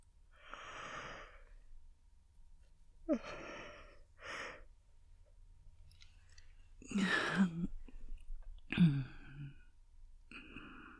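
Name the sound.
yawning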